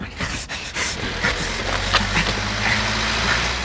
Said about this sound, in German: Dieser Kastenwagen. Das Licht ist eingeschaltet. Ja. Der Motor läuft auch.